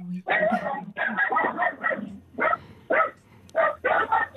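Small dogs squabble, yapping and snarling in rapid, loud bursts that overlap and break off briefly before starting up again.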